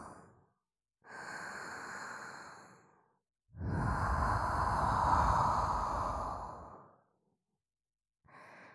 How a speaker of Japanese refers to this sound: こういう温かい吐息も好き。